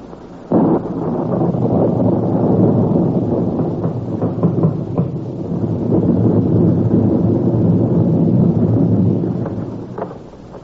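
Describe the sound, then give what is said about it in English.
Howling storm wind on a stormy January night roars loud and steady for about ten seconds, swelling and easing in gusts, with low rumbling underneath and no voices. “But no blood-tub melodrama could open more realistically than on that stormy night in January”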